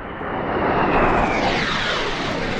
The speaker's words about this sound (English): 40 miles away as a Sukhoi fighter plane flies, top brass from eight nations, including Pakistan and four Central Asian states, are assembling at a tank firing range.